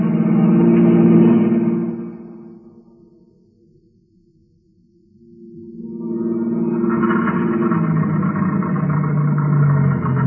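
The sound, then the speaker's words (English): A car engine drones loudly, then sputters and fades to near silence as the car runs out of gas, before revving back up into a steady, rough hum that carries on to the end. “Well, that's the end of the gas.”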